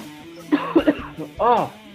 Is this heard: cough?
yes